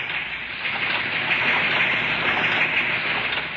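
V-mail processing equipment at the Navy's Fleet Post Office in New York runs with a steady, dense whirring rush, loud and even throughout, with no clear pauses and no voices.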